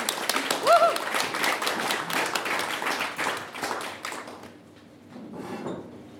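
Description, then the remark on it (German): An audience breaks into dense, steady applause for the Lesebühne, a reading stage, with many hands clapping at once and a brief high whistle early on. Then the clapping thins out and fades toward the end. “In diesem Sinne vielleicht einen total motivierenden Applaus für die Lesebühne.”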